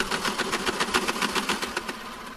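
Pencils being sharpened: a steady, buzzing mechanical grind with a rapid, even pulsing rhythm that holds for a couple of seconds, with no voices.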